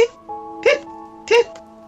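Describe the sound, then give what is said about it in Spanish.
A voice mimics a dog hiccuping: two sharp, yelping hic sounds about half a second apart, fairly loud, with a sustained voiced hum continuing between and after them. “Entonces, al perro le dio hipo.”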